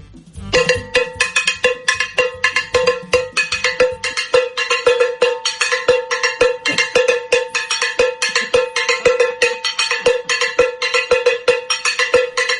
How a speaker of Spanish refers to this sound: Ya os dije que toque una campana.